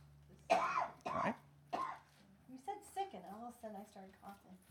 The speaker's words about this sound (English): I'm going to distance myself. Don't sit in the front row anymore. Sit in the back where you can cough on everyone.